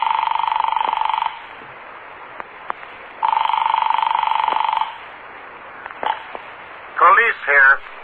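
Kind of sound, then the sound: household object, telephone being dialed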